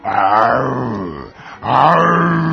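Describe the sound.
Two loud, drawn-out roars of lions and tigers, recorded from YouTube and played at maximum volume through a megaphone and huge speakers in a yard at 5 a.m., follow each other with a brief pause. Each is deep and rumbling, with a falling pitch, with no talking.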